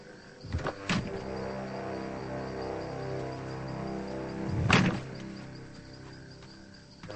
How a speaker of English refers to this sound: Sherry nods slightly as Denny gets out of the car.